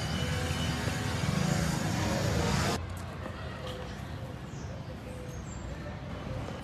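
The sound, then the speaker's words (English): A classic Chevy car's engine roars loudly for about three seconds on an island street, then cuts off sharply, leaving quieter street ambience and traffic rumble. “One thing on the island that's very cool is they have these classic cars that you can tour the island in.”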